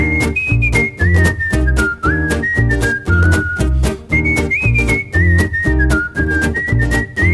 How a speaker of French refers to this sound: Siffler l'air de rien.